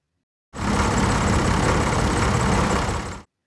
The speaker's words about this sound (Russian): маленькая мышка пошла погулять и попала на картофельное поле. В это время шла уборка урожая. Работали машины.